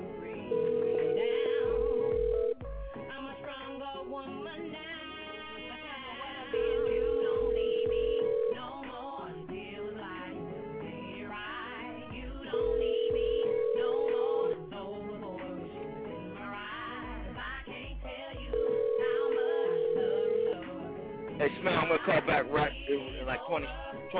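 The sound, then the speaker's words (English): A telephone rings four times in steady two-second bursts spaced several seconds apart before voicemail picks up, loud and clear over a busy backdrop of music and faint voices. “Go pick up the phone.”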